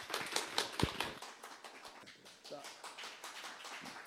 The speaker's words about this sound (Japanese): ではどうぞ拍手をお送りください。